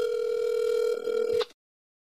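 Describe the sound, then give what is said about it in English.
A phone call to a brother rings out over speakerphone as one steady, mid-pitched electronic tone that holds for about a second and a half, then cuts off abruptly into silence. No voices are heard. “Okay, now what you're going to do is just put your phone on speaker and then keep go like this, like the way I'm showing you in the picture.”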